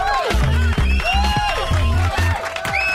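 An audience applauds and cheers steadily for three seconds as a guest is welcomed onto a show, with rising and falling whoops over the clapping and a repeating low thumping rhythm underneath.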